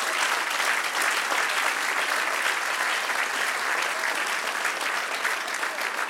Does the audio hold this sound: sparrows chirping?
no